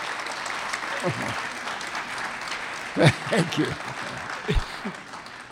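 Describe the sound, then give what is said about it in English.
An audience applauds steadily, a dense wash of clapping that holds at a moderate level throughout, while a man's voice speaks briefly over it. “I'd like a little applause for that.”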